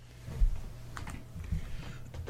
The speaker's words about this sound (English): We're waiting. He's got happy fingers dancing along the keyboard.